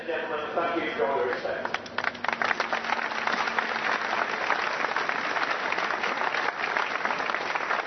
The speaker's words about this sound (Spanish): Se cortaba el ambiente, después de ese silencio, dijeron, se ha acabado el minuto de silencio y los aplausos fueron espectaculares.